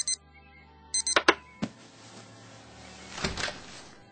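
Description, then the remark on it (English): A snooze alarm clock gives two short bursts of high electronic beeping, then sharp clicks and a clunk as it is silenced, followed by soft rustling and a brief swell of noise. No one speaks. “That was the snooze alarm.”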